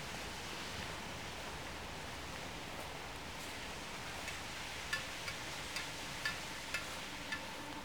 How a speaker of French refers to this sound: Et ici, il semble y avoir un petit ruisseau.